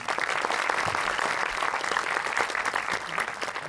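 A crowd claps steadily, a dense wash of many hands applauding at an even, fairly loud level throughout, with no voices standing out.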